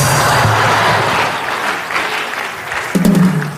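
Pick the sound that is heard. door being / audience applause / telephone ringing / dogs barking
audience applause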